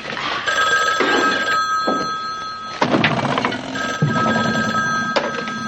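A telephone bell rings steadily and insistently, loud, with a few dull thumps and knocks breaking in partway through. No one speaks.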